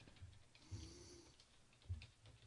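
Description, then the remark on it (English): A burst of clattery keystrokes on a loud computer keyboard, irregular taps with a couple of heavier thumps, without any talking, as someone types ostentatiously to look up on Wikipedia whether Ed McMahon is still alive. “Like, I'm going to let me type ostentatiously on my loud keyboard to see if Ed McMahon is still alive.”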